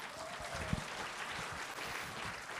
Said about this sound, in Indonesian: Luar biasa. Beri tepukan.